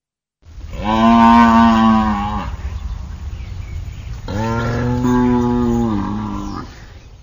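A cow moos twice, each call long and loud with a rich, harmonic bellowing tone, separated by a brief pause, with no talking.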